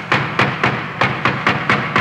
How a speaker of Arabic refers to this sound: سمعنا طرقا عنيفا على الباب انخلعت له قلوبنا.